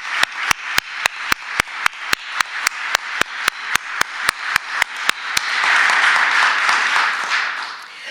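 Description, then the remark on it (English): An audience breaks into a round of applause for three people who have passed, in place of a moment of silence. A sharp, evenly spaced clap repeats quickly over the crowd for about five seconds, then dense clapping swells and carries on by itself. “And I know that while it is customary to have a moment of silence to acknowledge people who have passed, I would like you to join me in a round of applause for these 3 truly amazing people who have had an incredible impact on our city.”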